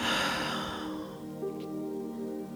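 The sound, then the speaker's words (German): A soft, breathy exhale through the mouth after breathing in through the nose, during a guided breathing exercise, strongest at the start and fading over about a second, with quiet sustained music humming underneath and no talking. “Wir atmen ein durch die Nase und atmen durch den Mund aus.”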